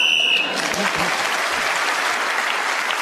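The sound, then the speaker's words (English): A short, shrill whistle blast, blown to end the round, sounds for about half a second, then an audience breaks into steady, loud applause that carries on to the end. “Speaking as a whistle went, it's an interesting situation.”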